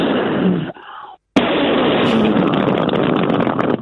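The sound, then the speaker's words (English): Someone vocally imitates cannon fire: a loud, hissing blast, a brief silence, then a longer roaring burst that rumbles on to the end. “I mean, that sounds incredibly scary, and I don't like the sound of cannons.”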